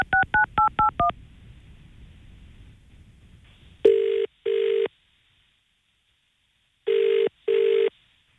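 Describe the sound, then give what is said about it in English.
A rapid run of six touch-tone dialing beeps as a phone call back to a man is placed, then a brief hiss on the line, followed by two paired bursts of ringing tone with a pause between them. No one speaks. “I think we'll ring him back.”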